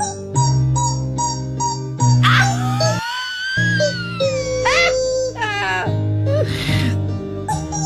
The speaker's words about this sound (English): So he's got several... He's got several, like, rubber chickens... And it seems that these several rubber chickens are all tuned differently.